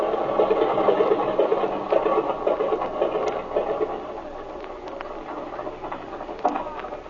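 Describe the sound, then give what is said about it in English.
An aircraft engine runs with a steady, dense mechanical drone, loud at first and easing slightly in the second half as it is switched off, with faint rattling clicks scattered through it. “All right, cut your switches, kid. The engine's cool enough.”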